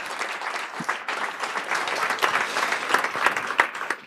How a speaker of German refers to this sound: Danke euch, Admin.io. Großer Applaus für euch nochmal. Und runter.